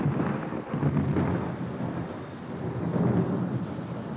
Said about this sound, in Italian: La primavera non è l'estate, la riconosci dai temporali. Il vento è ancora freddo, poco scirocco, più tramontana. Arriva la tempesta all'improvviso. Muri di pioggia cadono dal cielo nero, prima luminoso, poi subito carbone.